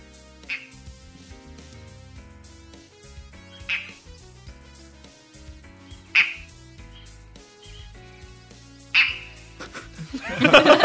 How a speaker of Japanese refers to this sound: あ、カエルのような感じですかね。 カエルのような声ですね。 この美しい鳥なのに、 声がちょっとゲっていう、そう。